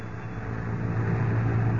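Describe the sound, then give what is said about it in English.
A London bus engine running on Bayswater Road in London, with a steady, deep rumbling drone that holds at a constant loud level throughout, with no voices and no change in pitch or pace. “Lois and Jimmy are riding atop a London bus.”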